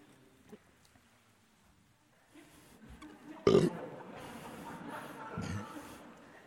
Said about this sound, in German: Und egal ob mit geistlichem Rülpser oder ohne geistlichen Rülpser, die Botschaft, die deutlich wird: Ich bin leer.